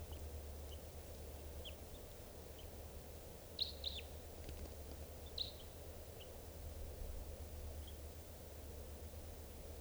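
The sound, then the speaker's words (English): A just-captured bird, number 630, gives high, thin chirps in scattered bursts, a few brighter double notes midway among fainter single peeps, all over a steady low rumbling hiss with no voices. “Just captured that bird, and he will be number 630.”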